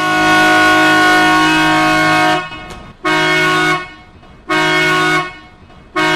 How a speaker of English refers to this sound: As we cast off the lines, we're going to be getting underway. We do have a loud horn on board.